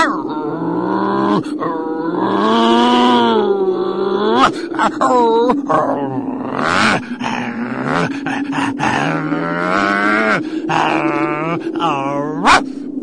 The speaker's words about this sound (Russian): Между тем несчастная Муму продолжала лаять, а Герасим напрасно старался отозвать ее от забора.